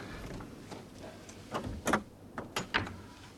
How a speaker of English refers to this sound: Joe steps inside and closes the door.